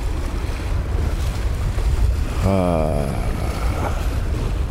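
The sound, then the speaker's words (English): Steady rushing surf washes against shoreline rocks on a windy, cold day, recorded from a rock out in the water, with wind buffeting the microphone throughout and a brief tonal, voice-like sound rising midway through the continuous roar of water. “I mean, I'm right out in the water, sitting on a rock.”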